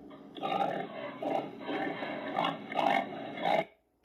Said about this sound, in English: Say it with me. O-I-N-K, oink, oink, oink.